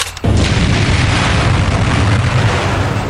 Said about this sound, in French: Il y a eu des extraordinaires explosions, attentats, de la part des résistants qui coinçaient une usine pendant 2 mois, 3 mois.